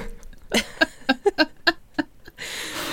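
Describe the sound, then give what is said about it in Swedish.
A burp breaks into a quick run of short, choppy croaks with a gurgling pitch, about seven pulses in under two seconds, followed by a steady hiss of noise. “Börja med en rejäl rap.”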